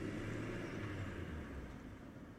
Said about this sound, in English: Then a car started and drove off.